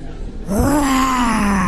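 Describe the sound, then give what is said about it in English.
A child's voice imitates a lion's roar during a school roll call before a zoo field trip: one sustained, raspy growl starting abruptly after a short quiet lead-in and holding steady at a fairly high pitch until the end. “Your lion sound.”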